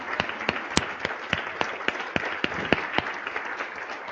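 An audience applauds steadily, a dense patter of many hands with a few sharp, evenly spaced claps standing out near the front; no one speaks over it.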